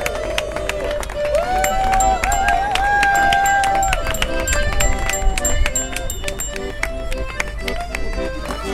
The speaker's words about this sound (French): Je propose un tonnerre d'applaudissements